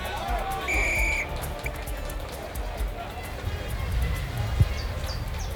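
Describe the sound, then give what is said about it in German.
A referee's whistle gives one short, shrill blast near the start to begin a basketball game against the Los Angeles Blizzards, over the steady murmur of a crowd, with a basketball bouncing and sneakers shuffling throughout. “Dann pfiff der Schiedsrichter das Spiel an.”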